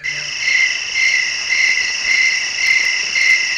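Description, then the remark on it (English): A steady chorus of crickets chirping in continuous high-pitched trills, pulsing in a regular rhythm at moderate loudness, with no voices present. “You like those crickets, Kate, huh?”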